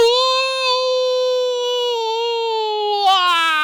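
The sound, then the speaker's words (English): A human voice imitates a jackal's howl: one long, steady, mid-pitched wail held for several seconds, wavering slightly before it breaks and slides downward at the end. “The jackals in the forest were howling at the full moon in the sky.”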